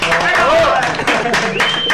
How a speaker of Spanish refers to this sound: El aplauso para ti, tío.